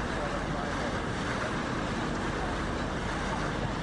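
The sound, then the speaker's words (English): A high-speed tourist boat races across the water in London in cold weather at over 40 miles an hour, with a loud, steady roar of engine, rushing spray and wind blowing over it, unbroken throughout. “One guy actually proposed to his girlfriend on this boat sitting right here, and she did say, I do.”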